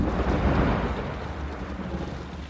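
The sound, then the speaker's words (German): A deep, continuous rumble of thunder from a thunderstorm rolls on for a few seconds, loud and low, with a faint hiss of rain or wind mixed in and no voices. “Der Blitz ist zu hell und das Grollen des Gewitters ist viel zu laut.”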